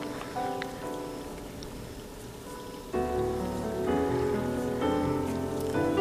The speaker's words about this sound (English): Just as there's beauty in the rain that falls down upon our faces.